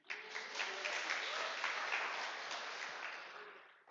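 An audience breaks into steady applause, a dense crackle of many hands clapping at once that holds for several seconds before tapering off slightly at the end. No one speaks over it.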